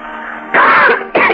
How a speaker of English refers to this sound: What are you coughing about? The first one always bites our lungs. Cough harder. That's it.